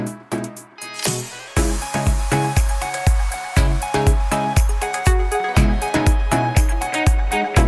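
A Persian pop song plays loud and full, driven by a steady thumping kick drum on every beat under bright, shimmering synths, starting after a brief swelling intro.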